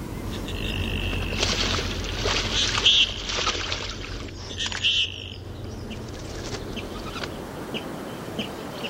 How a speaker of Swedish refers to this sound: Och så en fågel som var alldeles särskilt efterlängtad. Det låter ju verkligen som en kärsångare här nu som sjunger.